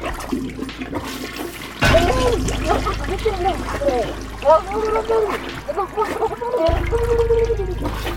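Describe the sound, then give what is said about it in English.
A loud toilet flush bursts in after a quiet moment, rushing and gurgling for several seconds, with a fresh surge of swirling water near the end. “The flushing sound was very loud in his ears.”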